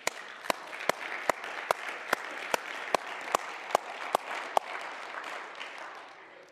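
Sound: audience clapping hands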